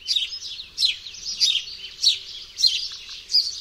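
A house sparrow gives its chirping contact call, bright lively cheeps in a steady rhythm of about six calls, each slightly varied in pitch, clear with no other sounds.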